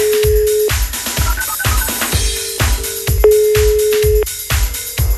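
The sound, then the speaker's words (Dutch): A phone tone sounds in steady sustained beeps with brief higher blips as a telephone number is dialed and a call placed, with a ringing signal, over a loud, rhythmic thumping beat throughout. “Het telefoonnummer van Koen van het CD-gekje. We gaan ze even bellen.”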